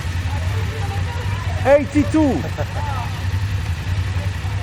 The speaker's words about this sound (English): Is there anything more evocative than the sound of a group of BMW motorcycles? I don't think so. Think of the sight and sound of over 100 BMW 850 GS bikes together.